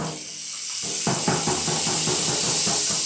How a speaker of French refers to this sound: Gouttes d'eau qui crépitent et tambourinent effrontément. Écoutons le chant de la pluie. Gouttelettes qui s'écoulent et qui ruissellent sur nos vitres embuées.